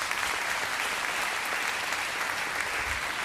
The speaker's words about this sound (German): Ja, das muss man sagen. Einmal Applaus.